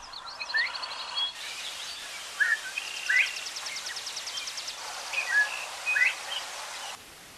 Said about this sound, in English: All right, it sounded just like a few birds there, but no, in particular, there was one bird in there known as a Bob White. You can sort of hear what sounds like the words Bob White being said by a bird right there.